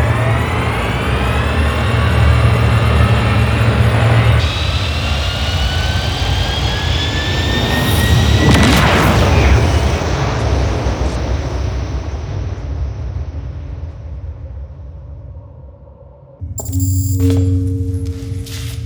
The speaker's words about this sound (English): Connection successful. Engines ignited. Rerouted for hyperspace.